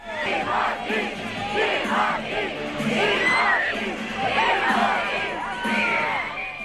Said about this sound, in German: Timothy Chalamet ließ hier seine wild gewordenen Fans dieses Jahr in Venedig brüllen, schreien, kreischen. Eine solche Ekstase ist dann auch am roten Teppich auf dem Lido nicht täglich.